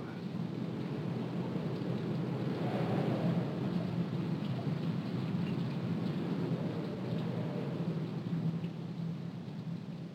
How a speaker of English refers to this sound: Just listen to the wind and rain outside.